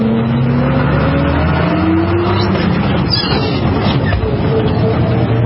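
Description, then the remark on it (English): A tour bus's engine rumbles loudly in Whanganui, New Zealand, its pitch climbing steadily as the bus pulls away and gathers speed, with a continuous drone and road noise throughout. “And here we have the Counterspin bus.”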